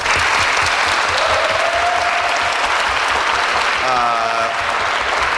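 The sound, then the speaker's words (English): Loud, sustained applause from a large audience voting by applause for Night of the Living Dead, dense clapping with a few faint cheers or whistles rising above the crowd. “By round of applause, again, based on our four films, what do you think should be on the list?”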